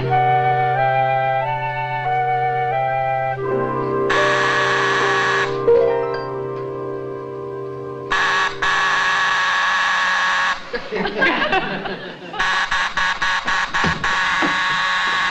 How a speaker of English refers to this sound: Ringing a doorbell at this hour of the night.